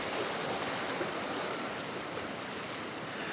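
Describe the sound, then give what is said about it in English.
Pacific Ocean waves wash onto the shore along Westcliff Drive in Santa Cruz, California, in clear air just before dawn, a steady, broad roar of surf, a continuous hissing rush with no distinct breaks and no voices. “The air is clear and it's just before dawn, and a writer named Ellen Bass, who's published a number of poems in The New Yorker, is taking her daily walk along the ocean near her home in Santa Cruz, California.”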